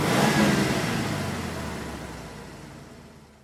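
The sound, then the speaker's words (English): A car engine roars loudly at first, a broad rushing drone with a steady low hum, then gradually fades as though the vehicle is pulling away. No voices are heard. “It's a car.”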